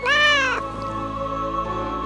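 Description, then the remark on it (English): A single clear cat meow, loud, rising then falling over about half a second, followed by a faint sustained tonal hum with no speech. “His third son got the cat.”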